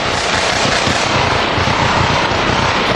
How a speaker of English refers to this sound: In California, a fire, a final shootout with ex-cop accused killer Chris Dorner, then confirmation of Dorner's remains. Here's the gunfire, then LA's ABC 7 News.